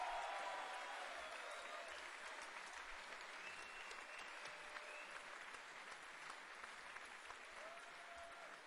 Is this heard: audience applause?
yes